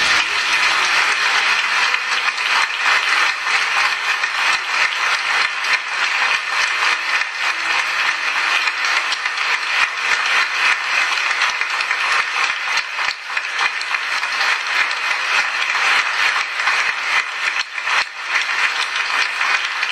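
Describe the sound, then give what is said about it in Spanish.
A large audience stands and applauds steadily in honor of the priesthood, a dense, crackling wash of many hands clapping that stays loud and even throughout, with no voices breaking through. “Quisiera pedirles a todos que hoy manifestemos visiblemente, en la medida que podamos, nuestro amor, nuestro respeto, nuestra fidelidad, nuestra reverencia al sacerdocio, poniéndonos de pie y dándoles un aplauso.”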